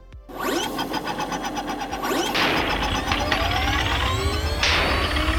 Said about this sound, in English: The skiff coughed and stuttered, then revved up in a steady rhythm that echoed through the hangar.